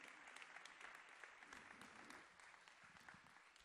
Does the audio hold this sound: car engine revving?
no